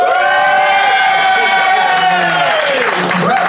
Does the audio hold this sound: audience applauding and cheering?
yes